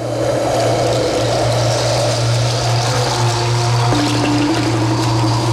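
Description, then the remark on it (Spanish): A continuous, steady rush of the flowing Atoyatl river, loud, with a low droning hum running beneath it throughout and no voices. “Pronto su caída la puso en contacto con el agua y...”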